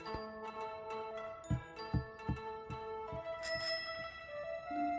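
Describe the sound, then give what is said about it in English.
A bicycle bell rings out with bright, lingering metallic tones, layered over a series of soft, rhythmic low thumps, with a sharper, shimmering ring partway through. “Well, no, but they gave me the bell.”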